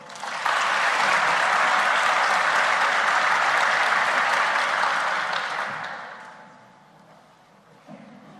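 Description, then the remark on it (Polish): Sustained audience applause, a dense wash of many hands clapping at steady volume for about five seconds before fading down to a quieter patter at the end. “Mam taką jedną delikatną uwagę, jeżeli mnie głos nie słabnie, to państwo nie powinny słabnąć brawa.”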